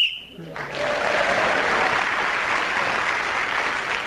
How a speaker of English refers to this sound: Whoever is speaking when the whistle is blown gains an extra point.